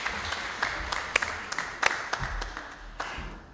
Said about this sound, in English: Round of applause as you sit down.